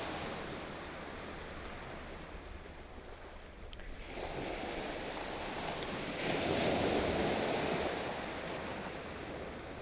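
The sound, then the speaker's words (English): Steady roar of ocean surf washing onto a shore, with a swell of a larger wave breaking midway and wind rushing past the microphone; no voices. “looking out, looking at the waves now and us.”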